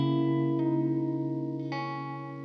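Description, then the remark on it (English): An electric guitar rings out sustained chords through a small blue Accutronics spring reverb tank, with two fresh strums adding a bright splash as the washy tail slowly fades; no voices. “I think it does a good job of staying clean and giving a nice big splash of reverb.”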